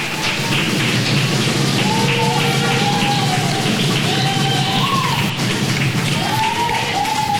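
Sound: audience applause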